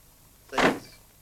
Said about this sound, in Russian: Закройте дверь, пожалуйста.